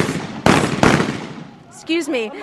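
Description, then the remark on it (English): Two sharp gunshots of celebratory gunfire crack out in quick succession over a noisy outdoor scene as people run into Gaddafi's compound in Libya, followed by a fading rumble and then a man's voice speaking. “People are literally running in here, and the sound that you can hear behind me of shooting is celebratory gunfire.”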